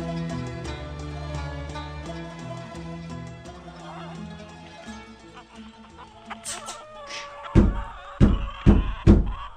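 Soft instrumental music plays, then four loud, evenly spaced knocks on the wooden door of a family house ring out near the end.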